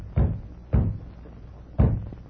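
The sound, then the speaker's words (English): Three dull, low thuds of weak knocking on the door of the BF Ranch house, unevenly spaced over a couple of seconds, each a soft, muffled rap with a quick decay and no voices. “Sound like someone trying to rap on the door. Mighty weak door rapping.”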